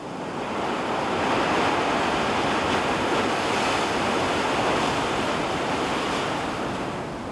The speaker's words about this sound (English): This is one of my favorite places on Earth. In fact, I used to live at the ocean. I used to love the way the pounding surf would lull me to sleep at night. Just listen.